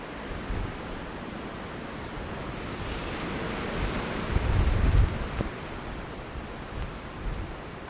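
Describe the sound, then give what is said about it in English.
Strong wind roars steadily outdoors, a broad rushing noise that swells and buffets the microphone with low rumbling gusts around the middle before settling back to a constant blustery hiss. “Did I mention it was windy?”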